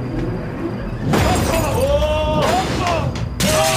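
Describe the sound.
Glass windows being smashed in three loud, close crashes, each followed by bright ringing and tinkling shards, with raised voices heard between the breaks.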